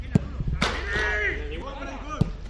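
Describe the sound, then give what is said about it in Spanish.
Real Madrid football training session of Xavi Alonso's team, practising intensity and shots on goal: a few sharp ball-kick thuds ring out amid players' shouted calls and voices, with outdoor ambience behind them. “Sonido del entrenamiento del equipo de Xavi Alonso.”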